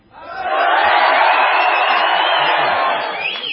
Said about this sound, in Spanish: Vamos a gritar, nada, así nada más. Los primeros, los de abajo. Adelante.